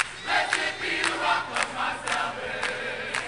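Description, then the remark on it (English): A large crowd at a John Kerry campaign rally at The Tabernacle, a church-turned-nightclub in Atlanta, screams and cheers loudly and continuously as Kerry begins to speak, with high-pitched shrieks from young women rising in repeated bursts over a dense roar of voices. “A large crowd, both black and white, enjoyed the musical warm-up, and when Kerry himself began to speak, he got the kind of screaming welcome from some young women that's typically reserved for rock stars.”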